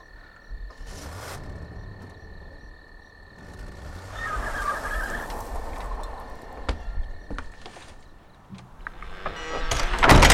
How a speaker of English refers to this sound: Oh my God. You guys, this door is heavy. It's a big, heavy door. Most of the stained glass inlay is still holding up, though. It's pretty cool.